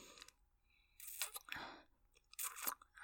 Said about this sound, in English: slurping away on a cock.